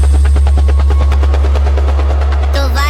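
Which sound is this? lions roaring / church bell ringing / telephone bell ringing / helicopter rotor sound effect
helicopter rotor sound effect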